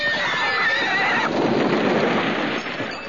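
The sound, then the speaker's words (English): A horse gives a loud whinny lasting about a second as it rears up on its hind legs, after Jadis jumps onto its back, followed by a rushing, noisy wash of hooves and commotion that fades slightly toward the end. “As I watched, I saw it rear up on its hind legs”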